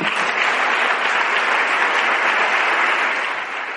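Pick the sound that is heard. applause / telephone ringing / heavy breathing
applause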